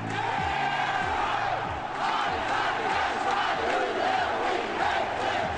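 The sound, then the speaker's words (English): A large crowd chants the school cheer known as the Hadi Tadi in unison, loud and steady, with rhythmic shouted syllables repeating over a dense roar of voices. “The bear beat out two other finalists, the Rebel Land Shark and something called the Hadi Tadi, an attempt to personify the school cheer, which gives us a chance to play it.”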